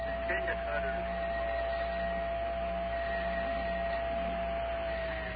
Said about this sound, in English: Maybe you should stop ringing that bell, please. While I'm on the phone. Come on, give me a break.